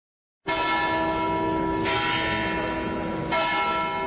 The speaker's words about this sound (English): At Bethlehem's Church of the Nativity, bells announced the services of three different denominations. The imposing structure was first built in 326 A.D., later destroyed and rebuilt in 529.